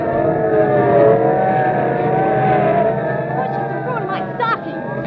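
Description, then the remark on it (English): Metropolitan Police squad cars race past without slowing, with a loud, steady roar of engines, the sound swelling and then shifting as rising, wailing siren tones cut through near the end. “Look, police cars, and are they rolling? And we better start hopping. They're not slowing down for anything.”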